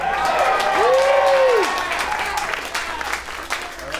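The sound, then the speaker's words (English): A crowd bursts into applause and cheering, with dense clapping and a rising whoop from one voice early on, the noise staying fairly loud before gradually tapering off. “I don't know if this one's worth cheering over, but I certainly agree.”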